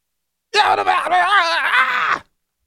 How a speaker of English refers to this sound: What do you think my plan of attack would be? This scream.